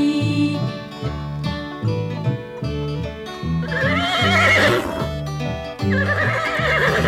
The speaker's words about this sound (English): Fee-deedle-dee-deedle-dee-dee-dee, the horse is talking to me.